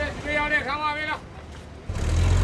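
A hot, crowded city bus ride across town: a wavering tonal whine fills the first second, a brief airy hiss follows, then a deep, loud engine rumble swells and holds steady to the end.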